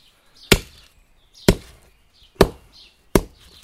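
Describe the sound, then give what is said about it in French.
Oyster shells being crushed with four sharp, hard blows about a second apart, each a loud crack followed by a brief gritty crunch, with quiet between strikes and no talking. “Ah, je casse les huîtres, là.”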